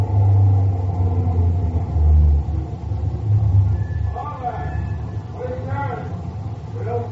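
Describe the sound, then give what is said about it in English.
A heavy truck engine rumbles low and steady, the drone easing as the truck slows to a halt, while faint muffled voices murmur in the background. “Think we're coming to the roadblock? Could be. Yeah, he's stopping.”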